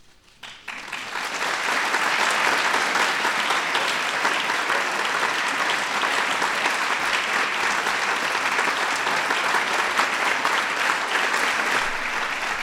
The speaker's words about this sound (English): Let's give our honorees one more big round of applause.